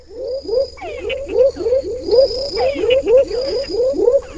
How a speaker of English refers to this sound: Once again, I couldn't tell you where you are or what you're listening to or what environment you're in. You'd be underwater for all I know. Well, you're close. You're actually in a marsh. In Panama, those were two different species of frogs.